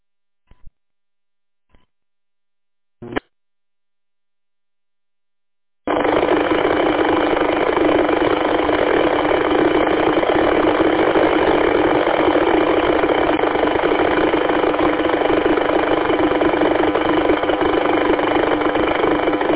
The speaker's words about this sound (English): Helicopter, no audio, just helicopter noise